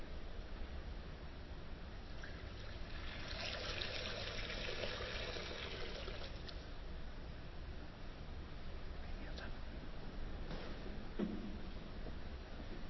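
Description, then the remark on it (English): Water is poured into a baptismal font during a baptism in a steady, splashing stream lasting a few seconds, then trickles off, leaving quiet room tone and a faint knock near the end. “Blessed by your Holy Spirit, gracious God, this water.”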